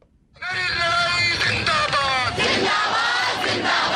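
A large crowd of student protesters in the streets of New Delhi, India, chants and shouts in unison against a new citizenship law, many voices rising and falling in rhythmic calls that stay loud and dense throughout after a quiet start.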